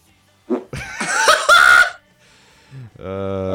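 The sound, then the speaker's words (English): A loud, raspy fart-like burst of noise, breaking up into a couple of rough sputters over about a second, followed by a short voiced sound that could be laughter. “I got a fart. Hang on. Did you hear that?”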